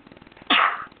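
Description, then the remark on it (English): A single loud sneeze bursts out suddenly against a quiet background, a sharp explosive rush of air that fades over a fraction of a second. No one speaks. “Sorry, that sneeze caught me by surprise.”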